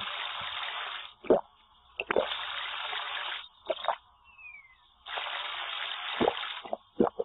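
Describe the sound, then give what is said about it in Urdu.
Running water pours in three long bursts, broken by sharp splashes and wet plops as hands scoop and wash during wudu, the Islamic ritual ablution, with brief quiet gaps between and no voices. “تین بار ناک میں پانی چڑھانے والی سنت تو انہوں نے مس کر دی.”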